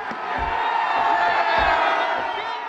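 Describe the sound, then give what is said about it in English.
A large crowd in Kyiv, Ukraine, roars and cheers continuously at high volume as a statue of Vladimir Lenin, a little more than 11 feet tall, is pulled down by a crane on a boulevard and topples to the ground; a dense wash of shouting voices with scattered low thuds and bumps underneath. “And as it topples to the ground, the crowd goes wild.”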